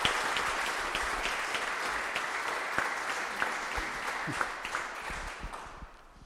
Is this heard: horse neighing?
no